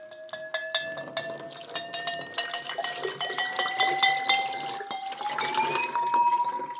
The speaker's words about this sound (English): It rings better when it's empty. So what the great pot thing to do is to ding it while pouring out the liquid inside.